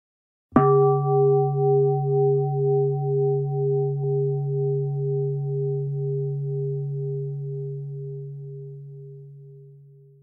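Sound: meditation bell ringing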